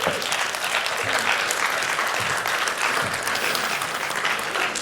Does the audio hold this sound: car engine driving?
no